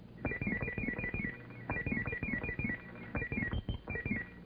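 A telephone rings in repeated electronic bursts, a warbling ringtone pattern with brief gaps between rings, fairly loud, with no voices.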